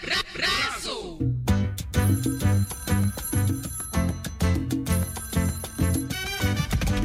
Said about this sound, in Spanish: como molesta este teléfono.